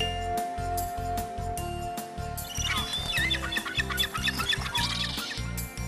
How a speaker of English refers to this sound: I know, a seagull.